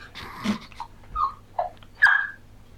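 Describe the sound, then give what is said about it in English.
A dog whimpers and snorts, a breathy snuffle followed by several short, high whines spaced a moment apart, with no talking. “Cutest little great dog.”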